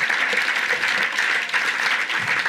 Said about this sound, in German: Wenn wir ihm mal einen kleinen Applaus geben. Halleluja! Ja!